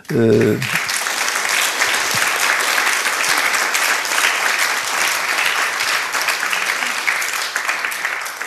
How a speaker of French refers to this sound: Elle vous entend. Donc elle vous remercie à travers moi de vos applaudissements.